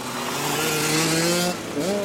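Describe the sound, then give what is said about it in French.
A motorcycle engine revs loudly at a motoball match in the French U18 championship between Houlgat and Beaujaucourt, its pitch climbing steadily, then drops off briefly before revving up again. “Le motoball, c'est l'odeur de l'essence, le bruit de la moto.”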